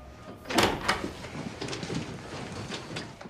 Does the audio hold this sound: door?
yes